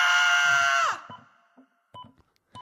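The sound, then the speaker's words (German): An old woman in a stairwell lets out a loud, shrill scream held for about a second, its pitch sliding down as it fades, followed by a few faint, brief sounds in near quiet. “In meinem Treppenhaus steht eine alte Frau und schreit sich die Lunge aus dem Körper.”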